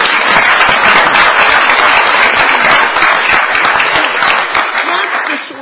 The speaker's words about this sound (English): A round of applause.